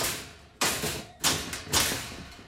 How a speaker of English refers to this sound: She purposely bangs her door.